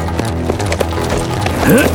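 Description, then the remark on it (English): A horse's hooves walk up a gully in a slow, steady clip-clop, roughly three beats per second, set against a dense tonal background, with a short rising whinny-like sound near the end. “Smoke slowed his horse to a walk and started up a gully.”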